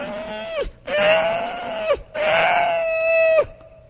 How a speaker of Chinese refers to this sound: 隔壁屠宰场，遐猪仔叽叽叫啊！哎呦，一听安尼，心是皮薄菜，后要惊死啊！迄都个堵嘞，迄猪仔在那硬叽。